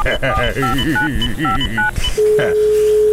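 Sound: telephone number being dialed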